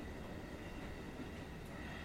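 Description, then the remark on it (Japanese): A steady, low rumble of a moving train interior, with continuous rolling noise and a faint hiss, heard from inside the carriage with no voices. “声を聞いてるってことは、君は今電車に乗ってるんだよね。”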